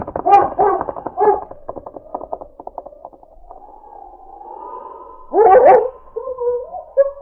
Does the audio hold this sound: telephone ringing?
no